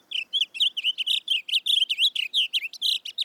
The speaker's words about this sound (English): Today, rather than the roar of cannons, fields like Antietam are filled with the songs of blue grosbeaks.